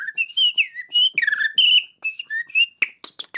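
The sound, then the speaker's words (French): A person whistles a rapid run of bird-like calls, bright warbling phrases that slide up and down in pitch, ending with sharp chirps. The whistling answers speech in bird language as part of a game on RFI's environment programme C'est pas du vent. No talking. “Je vous parle humain et vous me répondez oiseau.”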